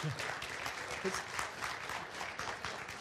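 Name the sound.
applause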